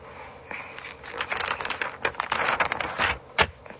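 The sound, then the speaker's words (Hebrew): Rapid, irregular clicking of keys being struck on a computer keyboard, fairly crisp, with a few louder taps standing out near the end and no voices. “מה זה? מחשב. נכון, זה מחשב.”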